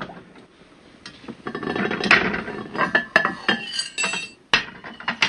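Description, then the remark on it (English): A metal kettle and its lid clink and rattle, a run of sharp, irregular metallic knocks and clatters of varying loudness, with no one speaking. “And the kettle's looking okay. I don't see the top of the kettle. Oh, yes, I do. There it is.”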